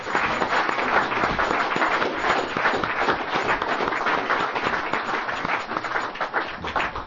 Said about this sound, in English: And also we want to thank our grateful host here and all the workers that were here. So can we give them all a round of applause?